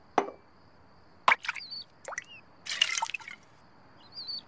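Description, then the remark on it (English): A Glub Glub the Drinking Duck drinking bird toy, entrepreneur John Tigrette's invention known from The Simpsons, dips into water, making a series of small plops and drips at irregular intervals with brief quiet gaps between them. No one speaks. “he caught the attention of entrepreneur John Tigrette, whose most successful invention you may recognize from The Simpsons, Glub Glub the Drinking Duck.”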